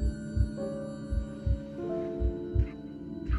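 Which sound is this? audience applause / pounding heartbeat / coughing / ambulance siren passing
pounding heartbeat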